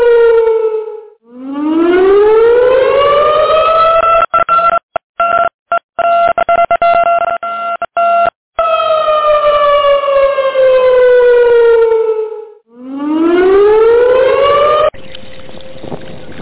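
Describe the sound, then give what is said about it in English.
A loud, harmonically rich siren sweeps up and down in long wailing cycles, broken midway by stuttering gaps and dropouts, with no voices present. “Everybody, that's my fruit bat alarm.”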